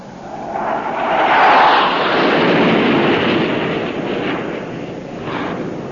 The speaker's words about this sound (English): What is it, Daddy? What is it? Airplane. I'll never forget that sound. Or something worse. They must have invented something worse than airplanes by now.